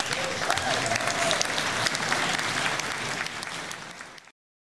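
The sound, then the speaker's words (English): An audience at a Community Band concert claps for a speech, a dense wash of many hands at fairly even loudness, continuing for about four seconds before cutting off abruptly. “So, wow, one more round of applause for the speech.”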